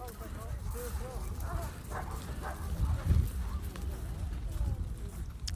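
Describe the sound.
Footsteps crunch on sand as people walk by at the seaside, with a calm sea and a slight breeze, amid a busy outdoor background, with murmuring voices and a dog barking now and then, the steps blending into steady ambient noise.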